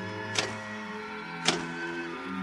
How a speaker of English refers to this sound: When suddenly, without provocation or explanation, it happened. The electric typewriter began to respond to the impulses from the machine.